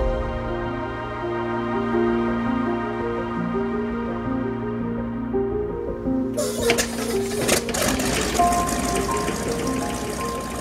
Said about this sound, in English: In a flash, we're back on the plane. The engine roars, the propellers whirl, and once again we rise above the clouds.